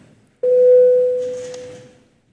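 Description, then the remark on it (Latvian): A parliamentary voting bell, called for before a vote on a bill, sounds once as a single steady electronic tone that starts abruptly, holds for about a second and a half, then fades, with faint murmur underneath. “Iebildumu nav, lūdzu zvanu.”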